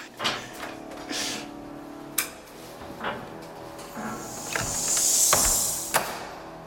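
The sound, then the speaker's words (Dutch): The door to the organ loft in Delft opens with a series of sharp clicks and knocks from the latch and handle, then a soft rising scrape or creak as it swings, ending with another knock. “Leuk, dit is de entree naar het orgel, deze deur.”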